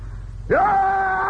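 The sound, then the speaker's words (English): A voice lets out a loud, sustained scream-like cry imitating a tiger, rising sharply then holding steady for about a second, alone over faint background noise. “And the tiger screamed.”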